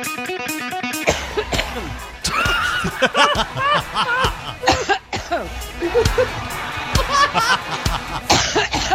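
Hillary's repeated coughs and throaty vocal bursts chopped into a rhythmic remix made as a campaign song over driving rock music with steady beats, the cough sounds looped and stuttered in time with the track.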